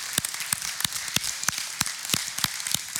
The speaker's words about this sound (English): Men, I want you to give a great big hand clap to all of the mothers in this house.